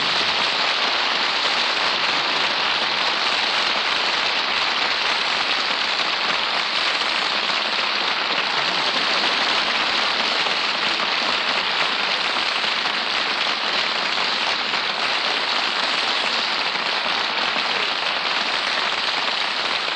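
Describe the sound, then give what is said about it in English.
Steady, heavy rain from a storm pours down without a break, a dense hiss of drops drumming on a surface at an even loudness throughout, with no voices. “I think I feel another storm coming on.”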